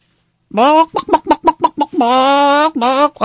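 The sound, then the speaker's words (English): A rooster crows loudly: a brief opening note, a quick run of stuttering pulses, then a long drawn-out call and a short final note, with no one talking. “It was my friend Mary Beth's rooster, crowing.”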